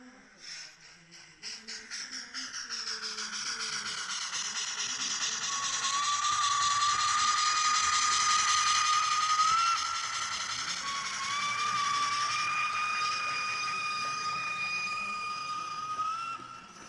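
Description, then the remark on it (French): Small working model trains whir and clatter along a track, a steady mechanical rattling with rising and falling whining tones from the motors, continuous without any talking. “On peut faire écouter le son, Joël, parce que en plus il y a des trains qui ça roule, c'est fonctionnel.”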